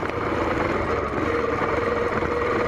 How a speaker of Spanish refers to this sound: Escuchamos que una moto subió, dio la vuelta y se parqueó ahí.